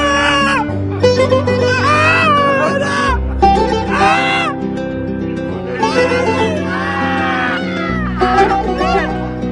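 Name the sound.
woman crying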